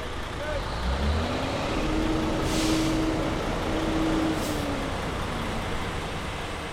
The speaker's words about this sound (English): Garbage trucks, dump trucks, cement mixers, food trucks, moving trucks, any truck with a commercial license has to pull over